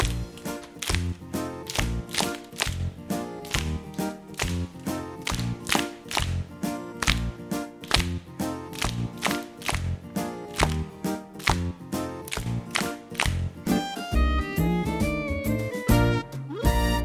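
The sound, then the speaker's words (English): Steady, sharp hand claps keep a regular beat over upbeat music with a melody, continuing loudly throughout, with the clapping thinning out as the tune carries on near the end. “Now let's clap in time to the music.”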